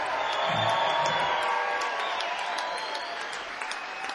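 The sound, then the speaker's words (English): A crowd applauds and cheers steadily, dense clapping with a few higher whoops and shouts mixed in, holding at a loud, even level throughout, as bass guitarist Scott Nelson from Austin, Texas, is introduced during band introductions. “Back here on the bass guitar, also from Austin, Texas, all night long, give it up for Mr. Scott Nelson.”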